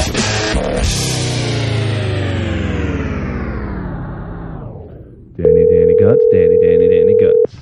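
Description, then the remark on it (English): A telephone call being placed to Dan Gutman: a swooping electronic effect fades out, then a loud, steady ringing tone sounds for about two seconds, clear, with no one talking. “Let's get Dan Gutman on the phone.”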